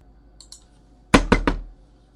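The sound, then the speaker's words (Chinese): Three hard, quick knocks on a door, loud, following a couple of faint light clicks in an otherwise quiet setting. “那我用力敲门干什么？”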